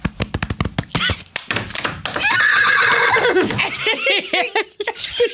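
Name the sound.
person imitating a horse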